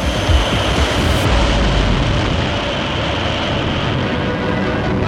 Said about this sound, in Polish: 20 lipca 1960 roku na morskim poligonie rakietowym niedaleko przylądka Canaveral na Florydzie z okrętu podwodnego George Washington wystrzelono pierwszy pocisk balistyczny Polaris.